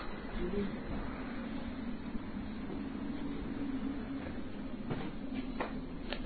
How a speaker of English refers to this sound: But we're just going to get on the back of the tram. All right, here we go.